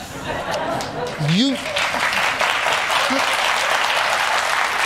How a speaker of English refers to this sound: What's wrong with them people in the studio? Why are they clapping all the time for you, Al?